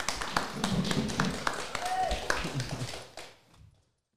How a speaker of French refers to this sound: Vous êtes en direct sur Radio Prévert, depuis le Carreau à la Flèche, le festival Les Affranchis. On les applaudit, nos invités qui s'en vont. Merci à vous. Merci.